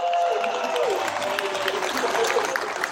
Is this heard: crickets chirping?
no